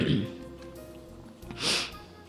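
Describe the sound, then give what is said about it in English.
A person clears their throat, then lets out a short, harsh cough a moment later, with a faint steady hum in between, during a lecture given on December 17, 2017 in Kaohsiung, Taiwan. “I've been coughing since a few days.”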